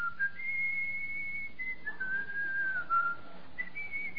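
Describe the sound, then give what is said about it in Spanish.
A single person whistles a slow hymn melody, holding long, smooth notes that rise and fall, heard alone against a faint low background hum. “Pero sabe una cosa, hay muchas personas que no agarran el himnario. Ay, yo tenía una hermana allá en ¿cómo se llama? En San Francisco”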